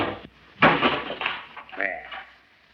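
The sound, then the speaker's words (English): A folding screen topples over with a sudden clattering crash that rattles briefly, followed by a few voice-like sounds. “See, the screen has fallen over.”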